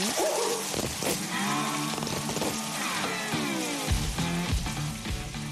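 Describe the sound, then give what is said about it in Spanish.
Steady hissing spray of shower water runs throughout, fairly loud, recorded with a microphone in the shower, while a famous man sings loudly and roughly over it. “es que a lo mejor en casa la gente tiene radio en la ducha, pero en la nuestra, en Rock FM, tenemos un micrófono”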